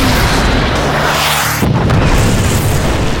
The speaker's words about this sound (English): The explosion sent the aliens flying in opposite directions.